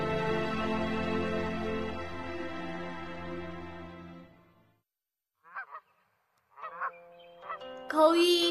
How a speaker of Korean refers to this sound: 거위 굽은 목은 하늘을 향해 노래 부르네. 하얀 털은 푸른 모루 위에 있고 빨간 발은 파란 파문을 만드누나.